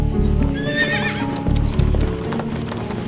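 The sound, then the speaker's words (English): A horse whinnies sharply, then, spurred by its rider, rides off with hooves clip-clopping in a quick, steady trot, loud at first and carrying on for a few seconds. “Rainey set spurs to his horse and rode off at a fast trot.”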